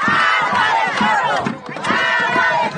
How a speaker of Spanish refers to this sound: Una protesta en los alrededores del Palacio Presidencial venezolano.